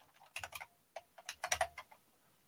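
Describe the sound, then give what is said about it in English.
Quick bursts of typing on a computer keyboard, a dozen or so sharp clicks in uneven clusters, fairly quiet, with no one talking, as someone pulls up a speech on their screen. “One second, I'll just pull it up on my screen.”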